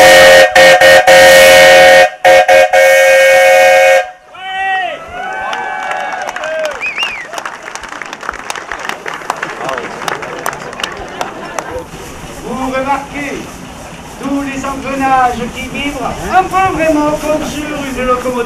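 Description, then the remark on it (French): A loud, steady steam whistle from a steam engine, fired with wood or coal on a fire grate of about one square metre, blasts for about four seconds, then cuts off, leaving a crowd of people talking over faint mechanical clatter and hiss. “On a à peu près 1 mètre carré de grille de feu où on met du bois ou du charbon pour activer tout ce mécanisme de fabrication de vapeur.”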